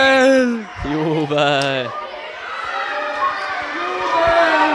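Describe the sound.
Loud cheering at a school handball game as the team wins 11-0. A few sustained, excited shouted voices rise and fall at the start, then blend into a dense, continuous wash of crowd noise with scattered yells on top.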